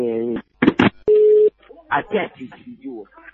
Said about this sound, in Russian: Опять ко мне звонят. Господи, прямо не знаю. Я снимаю трубку.